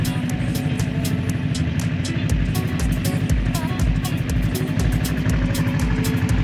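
A vehicle engine runs steadily while driving in an outside temperature of minus 18 degrees, a continuous low rumble with a rhythmic pulsing hum and faint ticking clicks layered on top throughout.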